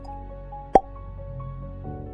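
A single crisp, hollow pop of a cork pulled from a wine bottle, fairly loud, rising briefly above a quiet background hum before fading quickly.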